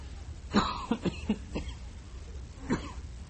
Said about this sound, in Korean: 아무리 열심히 말씀을 준비해도 기침은 나고